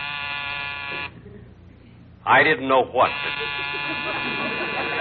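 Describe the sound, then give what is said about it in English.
A harsh, steady electric door buzzer drones for about a second, stops, then a brief voice cuts in before the buzzer returns and holds loudly to the end. “There's the door buzzing.”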